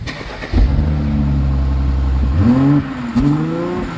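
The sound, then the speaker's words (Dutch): The 3-litre six-cylinder engine of an old black luxury limousine is cranked by hand and catches with a sudden loud burst, idles with a steady low rumble, then revs up and down twice. Loud, with no talking. “Ja, weer een ouderwetse zescilinder in de winkel.”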